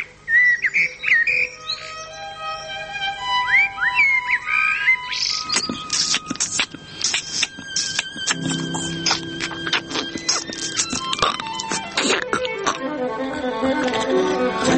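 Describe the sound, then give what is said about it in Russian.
Artificial insect-like chirps made with the lips and throat by actor Sergei Yursky, imitating cicadas, mantises and grasshoppers: rising whistled trills at first, then a dense, rhythmic stream of sharp clicks and buzzing rattles, steady and fairly loud, with no voices. “Похоже, очень похоже на голоса насекомых, цикад, богомолов, кузнечиков, но только похоже. Звуки, которые вы сейчас слышите, рукотворные, точнее, губа, горлотворные.”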